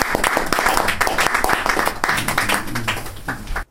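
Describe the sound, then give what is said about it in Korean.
A crowd applauds with dense, steady clapping for several seconds, fairly loud, with a few voices mixed in before it stops abruptly. “예, 우리 박수래요.”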